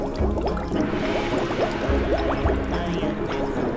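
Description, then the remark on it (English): Homebrewed yak beer pours steadily into a glass, a continuous gurgling splash with bubbly glugs whose pitch rises as the glass fills, heard alone without any talking. “As long as you use a glass and are careful when you pour, your yak beer should retain its clarity.”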